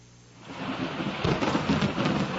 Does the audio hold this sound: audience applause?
no